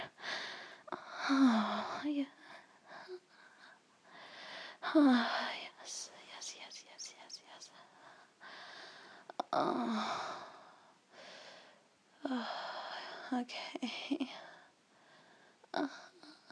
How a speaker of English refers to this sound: Oh, I've been breathing really heavily into this microphone the whole time. That may be really fucked up audio.